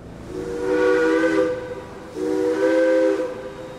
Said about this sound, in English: The refugees travelled overland at first, mostly boarding and disembarking steam locomotives that puffed and shrieked their way west.